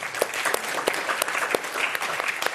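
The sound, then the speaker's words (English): An audience claps their hands in steady, dense applause to show that they have experienced profound grief in their lives, with sharp individual claps popping out of the broad crackle throughout. No voices break through the clapping. “So first, if you in your life have experienced profound grief, please clap your hands.”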